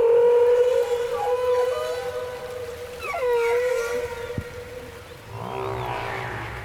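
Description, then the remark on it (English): A long, eerie whale call holds a steady moaning tone, then bends and swoops in pitch, with a low rumble and watery underwater ambience beneath; no one speaks. “Whales live in a world of sound.”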